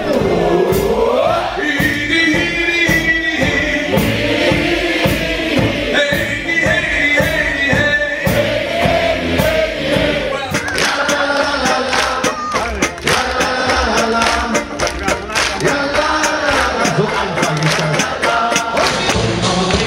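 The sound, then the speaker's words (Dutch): A loud, full live performance of the final song of a concert, with steady rhythmic beats and many voices singing together as the audience is challenged to join in, continuing without pause throughout. “Er zit altijd een deel in waarmee het publiek wordt uitgedaagd om mee te doen.”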